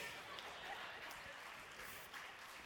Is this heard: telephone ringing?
no